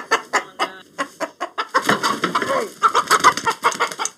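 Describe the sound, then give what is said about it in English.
A chicken clucks repeatedly in quick, uneven bursts while being held for a photograph, growing busier and more agitated toward the end, with no voices present. “Fact is, you can try to give chickens respect.”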